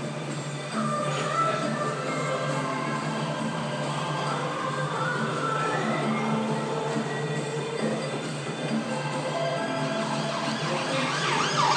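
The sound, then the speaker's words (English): An emergency siren wails continuously, its rising and falling tone sweeping past from left to right on the other side of a river, over a steady hum of city traffic. “There was an excellent siren that went by on the other side of the river when I was recording the river other day.”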